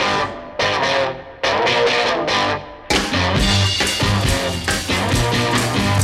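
Loud distorted rock guitar opens a song with punchy, chopped riffs, then drums and full band crash in around three seconds, driving a heavy, gritty groove with no voices.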